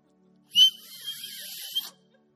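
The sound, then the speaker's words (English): A single sustained whistle blast, shrill and breathy with a hissing edge, sounds for about a second and a half, then cuts off. No one speaks over it. “We call, Lord, you're whistling to the prodigals.”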